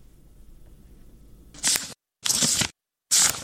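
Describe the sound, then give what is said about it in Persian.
Three crisp, papery swishes of book pages being turned by a 14-year-old Afghan schoolgirl, fairly loud, each separated by a brief silence, following a quiet low hum with no talking. “با هر بار ورق زدن کتابهایش خاطره تلخ روزی را بیاد می آورد که برایش اجازه داده نشد داخل مکتب برود.”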